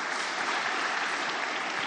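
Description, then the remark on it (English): A crowd claps their hands to answer a question, in a steady, dense wash of hand claps that holds at an even, fairly loud level throughout, with no voices standing out above the clapping. “If you like candy, please clap your hands.”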